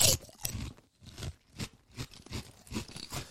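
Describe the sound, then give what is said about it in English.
Crunching of crispy gourmet salted egg fish skin chips being chewed, a rapid series of loud, sharp crackly bites in an uneven rhythm with brief pauses between them, no talking. “Get that crunching into your...”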